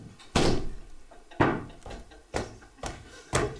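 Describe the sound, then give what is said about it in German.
A door slams hard, followed by a series of further heavy bangs at irregular intervals, each sharp with a brief rumbling decay, and no voices. “Die Türe knallte und es folgte ein junger Kollege.”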